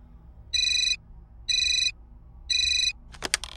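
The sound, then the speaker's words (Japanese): A telephone rings three times in a steady, evenly spaced pattern, each ring a bright electronic trill, followed by a brief clatter as if the handset is picked up. No one speaks. “でもしばらくして電話がありました。”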